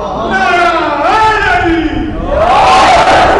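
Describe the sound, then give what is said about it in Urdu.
A large crowd at a religious gathering shouts a chanted response in unison to a slogan raised by a speaker, a loud, sustained swell of many voices that rises again toward the end. “اتنے بڑے نعرے پہ اتنا چھوٹا سا جواب, اور آپ نعرہ بلند کریں, ہاتھوں کو بلند کر کے جواب دیں.”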